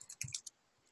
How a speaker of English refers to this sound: Here we are just typing the package name.